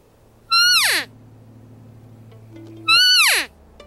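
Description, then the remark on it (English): Two loud, nasal mews from an elk cow call imitating a female elk, blown by a hunter in bushes in September toward a group of about 40 elk; each a high whine sliding steeply downward for about half a second, separated by a long pause over a faint low hum. “And I got up into these bushes and I took out my cow call. And so this call imitates a female elk.”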